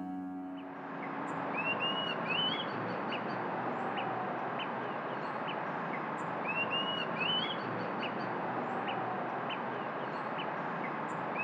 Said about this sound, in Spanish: Pibi tengo frío. Pibi José María, de nombre científico Contopus pertinax, del orden Passeriformes y de la familia Tiránide. La especie mide de 17 a 19 centímetros, presenta la mandíbula superior de color negruzco y la inferior amarillo-naranja